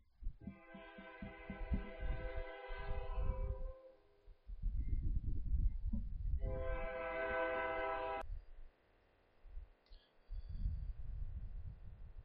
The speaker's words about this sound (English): We'll pause for that train.